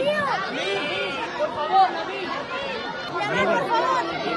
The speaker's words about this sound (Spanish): Yamal, por favor, le gritaban los niños.